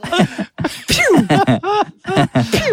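A voice imitates a man's sneezing fit, a string of about five quick, loud, tonal bursts with sharp pitch sweeps, like a toy space pistol going off, separated by brief pauses.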